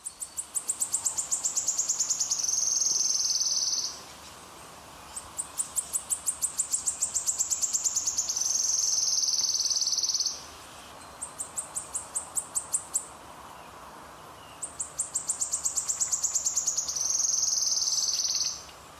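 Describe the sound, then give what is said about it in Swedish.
A wood warbler sings three times, each song a run of high, accelerating ticking notes that speeds into a long, shimmering trill, clear and loud against a quiet background hiss. “grönsångaren. Så mycket nöje med den. Då kör vi en rullning till.”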